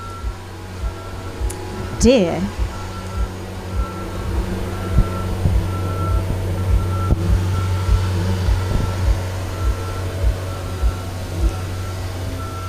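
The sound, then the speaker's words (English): A lorry rumbles while manoeuvring and going round, its steady reversing beeps repeating throughout over a low engine drone, with people speaking briefly. “So as soon as the lorry is going round there.”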